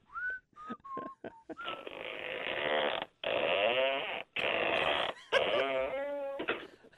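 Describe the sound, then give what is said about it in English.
A single French door that opens on one side is opened with the phone held near it, giving loud hinge squeaks: a few short, high chirps, then long, wavering, groaning creaks in several drawn-out bursts, with no talking. “And it's a single French door or a double? Well, it just opens up on one side, yeah.”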